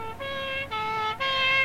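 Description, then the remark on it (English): A police car siren wails in steady, buzzy two-tone blasts, three held notes alternating between slightly higher and lower pitch, fairly loud with no voices over it. “Oh, it's not a fire engine. It's a police car.”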